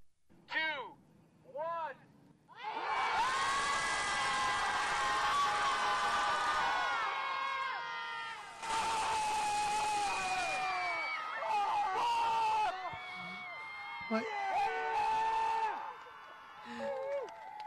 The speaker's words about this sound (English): Screaming. It's collective screaming.